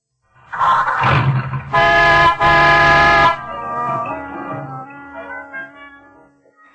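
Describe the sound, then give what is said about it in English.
A car engine cranks and turns over, powered by the Autolite electrical system of an Autolite-equipped car, then the car horn gives two loud honks back to back, followed by fading, softer tones. “I'm showing you how the Autolite electrical system in your Autolite-equipped car provides the power for starting the engine, sounding the horn, and playing the radio.”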